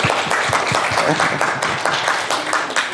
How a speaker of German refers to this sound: Vielleicht erstmal einen Applaus, oder?